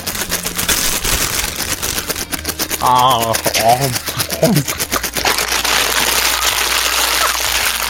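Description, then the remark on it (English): Steady crinkly rustling of a candy wrapper holding white chocolate and chocolate peppermint bark, or a stack of computer paper, full of sharp crackles, with a few brief wavering squeaky tones in the middle. “Hang on, I got something I can rustle, too.”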